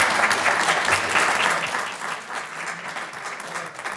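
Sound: audience applause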